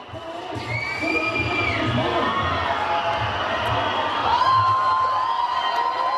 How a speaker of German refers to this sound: 1500 Schülerinnen und Schüler empfingen gestern die Kantonsparlamentarier zum Auftakt der Budgetdebatte mit Pfiffen, Sprechchören und Transparenten draußen vor dem Regierungsgebäude.